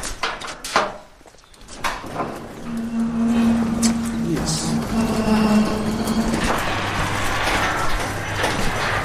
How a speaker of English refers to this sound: Shall we go into a shed? Yeah, I'll just open it. Starting to rain. Yeah. I'll just open that roller door.